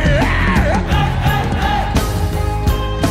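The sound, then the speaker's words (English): A large audience yells the chant "Kilo do" together, loud, their voices massed into a sustained roar for a few seconds over a steady low musical backing. “Somebody say, Kilo do. Yell it louder to the devil.”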